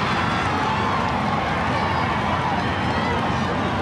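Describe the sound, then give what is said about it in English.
A big boxing arena crowd roars and cheers without a break as boxer Lennox Lewis enters the ring, a dense, loud wall of voices that holds steady for the whole few seconds with no single voice standing out. “Lennox Lewis is coming into the ring, and listen to this crowd.”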